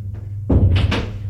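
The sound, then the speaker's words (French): An office door opens and shuts with a dull thud, followed by two quick creaking, scraping bursts as it swings, all over a low steady background hum. “Entrez, monsieur. Il entre.”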